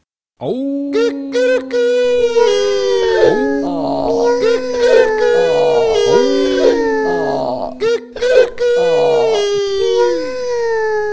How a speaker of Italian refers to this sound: Poi, quando tutti gli artisti furono a posto, diè il segnale con una delle sue lunghe orecchie come per battere la solfa. Allora, con gran fragore, si misero d'improvviso a ragliare ed abbaiare, a miagolare, a cantare.